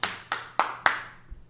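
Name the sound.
one person clapping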